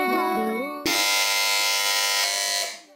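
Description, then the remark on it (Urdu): A harsh, steady electronic quiz buzzer, pressed first by Team B, sounds abruptly and holds for about two seconds before cutting off, following a brief stretch of tonal music. “جی تو اس بار سب سے پہلے بزر بجائی ہے ٹیم بی نے.”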